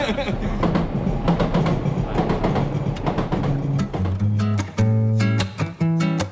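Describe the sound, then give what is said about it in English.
A train rolls past on the tracks by a little place with a hidden brewery, loud, its steady rumble broken by a rapid clatter of wheels over rail joints that continues for the whole stretch. “It's the little place by the train tracks where you'll find a hidden brewery currently working on a line in organic beers.”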